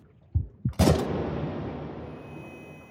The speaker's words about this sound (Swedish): Smällen från geväret är öronbedövande. Kapten Richard Phillips faller bakåt. Och allt blir tyst.